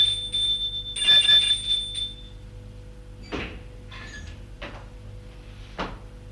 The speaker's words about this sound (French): Yves sonna à la porte de Florence.